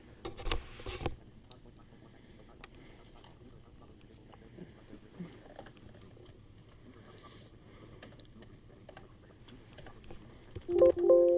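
Rapid clicking keystrokes on a computer keyboard patter along steadily, a fast irregular tapping rhythm, with a burst of louder noise at the start and a brief tonal sound near the end.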